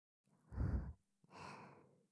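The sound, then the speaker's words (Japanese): Two soft, breathy exhalations very close to the microphone, breathed into the listener's ear with lips almost touching it, the first fuller and warmer, the second longer and airier, with no talking between them. “吐息が当たってる感じしちゃってますか？”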